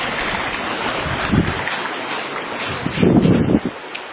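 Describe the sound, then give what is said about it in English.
A steady, rushing wash of a briskly running, overflowing creek fills the scene, with a few louder surges and splashes breaking through the constant churn; no one speaks. “The creek is running very brisk. It has been overflowing.”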